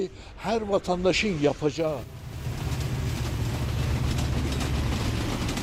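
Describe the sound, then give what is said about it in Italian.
A voice speaks briefly, then a dense, steady wash of bustle at the railway station in Van, reached by a night train from Tehran, with low rumbling machinery and indistinct crowd noise at moderate volume. “C'è trambusto alla stazione ferroviaria.”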